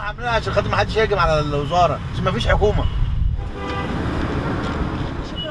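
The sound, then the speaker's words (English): Busy street traffic in Cairo rumbles steadily while several car horns honk in quick, overlapping bursts during the first half, then the dense road noise carries on without them. “Since the revolution started here just over 2 years ago, the traffic has gotten worse.”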